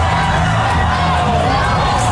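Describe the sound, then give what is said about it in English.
A loud rodeo crowd in Florida yelling and shouting in excited alarm as a cow jumps over the pen into the crowd and people run up the bleachers, a dense continuous roar of many voices with scattered higher cries, sustained without pause. “Just jumped over the pen, and now it's in the crowd.”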